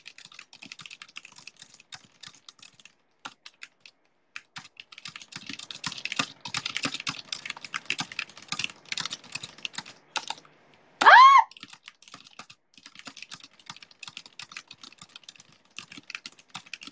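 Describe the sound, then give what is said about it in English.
Rapid, continuous clacking of computer keys, a dense flurry of keystrokes, with one brief sharp tonal chirp partway through and no talking. “I think my raw typing speed is 131 words per minute, but with the accuracy it goes down to 116.”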